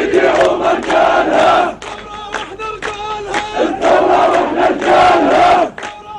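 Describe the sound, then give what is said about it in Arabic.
A large funeral crowd in the West Bank, with citizens from all regions and parties, chants together in loud, rhythmic bursts of voices, with a brief quieter lull in the middle before the massed chanting swells again. “جنازة حاشدة شارك فيها مواطنون من كل مناطق الضفة الغربية من جميع الأحزاب والمشارب، وهو ما يشكل استفتاء على نهج المقاومة الذي سار فيه الراحل وعائلته.”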